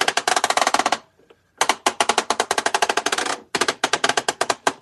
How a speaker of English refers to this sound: I want to go back to the commercial because it's got him on radar. I'll fire the laser cannon.